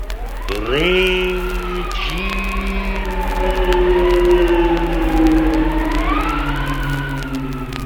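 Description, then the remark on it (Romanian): Wind howls outside in a long, steady moan, its pitch rising and sliding slowly over a low rumble. It stays loud throughout, with no voices. “Vântul șuieră besmetic pe afară.”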